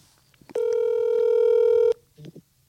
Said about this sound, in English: Well, let's call her. Oh my God. Hang on. I got her on speed dial here.